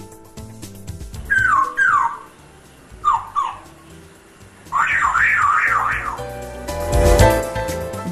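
An African grey parrot mimics a car alarm: two short bursts of pitched, wavering whoops, then a longer rapid up-and-down siren warble, ending in a harsh, noisy squawk. No one speaks.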